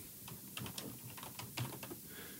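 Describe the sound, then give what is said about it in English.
Quick, uneven keystrokes clatter on a computer keyboard as a link is added to a course index, a run of crisp clicks with brief pauses between bursts and no voices. “If you haven't been following from the beginning, use the True Scenario Designery course index to catch up, and that needs to be a link, so we are taking a moment to linky-linky.”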